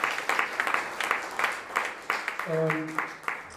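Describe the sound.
An audience applauds steadily, a dense patter of clapping hands with brief louder bursts, while a single voice calls out briefly partway through.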